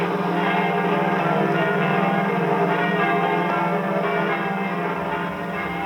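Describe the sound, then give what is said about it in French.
Church bells in Paris ring out in a dense, continuous peal announcing the entry of French and Allied troops into Paris, several bells overlapping into a loud, sustained wash of tolling with no pauses and no voices. “messieurs les curés sont requis de faire sonner les cloches de leurs églises”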